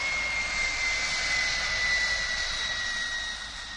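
A jet airplane engine roars steadily on the runway of Dubrovnik Airport, a broad hiss with a sharp, high whine running through it, the noise holding strong before easing off slightly at the end. No one speaks.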